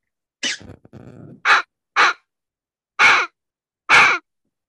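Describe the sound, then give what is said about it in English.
A fox hammer predator call mimics fox vocalizations with a series of loud, harsh, raspy barking screams, five in all, the first trailing into a lower grumble, then four spaced bursts, with no talking. “I'd never seen one like that, but it's made for fox sound.”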